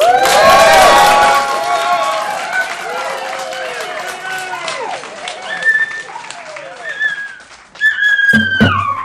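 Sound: audience cheering and applauding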